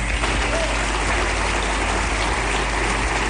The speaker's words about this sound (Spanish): En nombre de todos, quiero que la primera ovación de la noche sea para ellos, por favor.